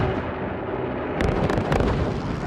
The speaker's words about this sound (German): Das Meer ist voll mit Kriegsschiffen und Landungsbooten, der Himmel voll mit Bombern und Jagdflugzeugen. Und um 5.20 Uhr beginnt das Feuer.